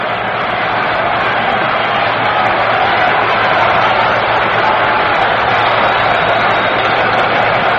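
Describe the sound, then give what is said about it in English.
A dense, steady roar from a large baseball stadium crowd fills the scene, a continuous wash of cheering and voices growing louder, with no single voice standing out. “Crowd that was very quiet a few moments ago is really starting to whip it up now.”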